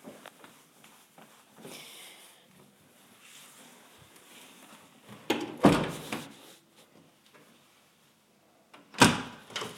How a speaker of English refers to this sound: So, that is the bedroom door.